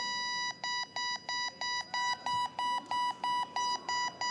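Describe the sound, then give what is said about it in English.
A rapid, steady series of high electronic beeps from the beeping module inside a 16-inch softball used in blind beep baseball, about a dozen evenly spaced pulses, clear with no talking. “Now, this 16-inch softball and the beeping tone inside of it and a set of beeping bases and rules gave us blind people the organized game of blind beeping baseball.”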